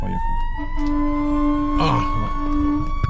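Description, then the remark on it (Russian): An emergency vehicle siren, from a fire engine or an ambulance, sounds steadily, its high tone rising slowly over a constant rumble of traffic, with a brief burst of noise partway through. “это пожарка, а может скорая, не знаю, это оно и тоже делает.”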